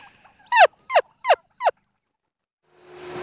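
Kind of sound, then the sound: bird, heritage turkeys gobbling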